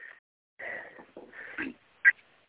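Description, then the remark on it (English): High-pitched whining of puppies being dragged on a leash for the first time comes in several strained, wavering bursts, with squeaky cries and a short sharp yelp near the end. No one speaks. “It sounds like you're torturing them. Well, they're puppies, and they've never been on a leash before.”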